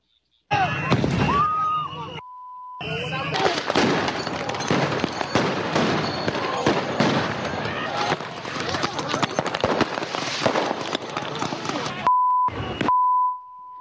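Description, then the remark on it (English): Repeated fireworks bangs and crackling bursts over a loud, chaotic crowd din with shouting voices at a street protest in Minneapolis, where people throw fireworks at federal agents, bracketed by short steady electronic bleeps near the start and end. “The video showing them throwing fireworks and other items at agents, breaking glass, beating cars, agitators vandalizing federal vehicles,”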